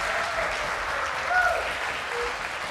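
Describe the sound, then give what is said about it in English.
An audience applauds steadily for Dixie Dog after she runs an obstacle course with a slide, a hoop, a stick and a tunnel. Many hands clap in a dense crackle at moderate volume, with a brief swell partway through and faint whistles or cheers mixed in. “All right, give her a hand right there.”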